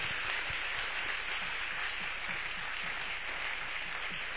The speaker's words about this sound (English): Can we give a clap offering to Jesus?